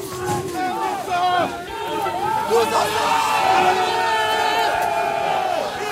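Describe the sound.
A large crowd of workers surges forward in a charge against CRS riot police and gendarmes, many voices shouting and yelling at once in a dense, continuous clamor, loud throughout with scattered cries rising above the roar.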